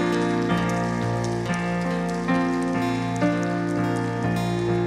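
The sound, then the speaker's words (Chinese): A church audience at a worship service claps steadily and continuously as applause offered to God, a dense patter of applause layered over sustained, held keyboard or organ chords that shift every second or so. “我哋将我哋嘅掌声再次俾我哋天上坐着为王嘅父。”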